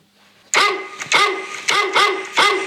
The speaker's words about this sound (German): Ja, das ist ein Hund. Das ist richtig.